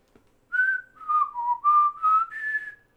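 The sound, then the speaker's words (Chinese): A short whistled melody of about six connected notes, some gliding between pitches: a person's whistled rendition of the FamilyMart convenience store door jingle. It is clear, with no talking. “全家吗？ 全家那个。”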